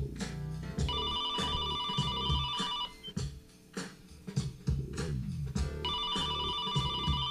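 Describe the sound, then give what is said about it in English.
A telephone rings on the caller's end of the line as someone calls their house to check messages: two long electronic rings separated by a pause of about three seconds, steady and fairly loud over a busy, rhythmic background. “Let me call the house and see what kind of messages I got there.”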